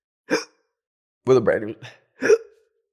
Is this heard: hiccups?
yes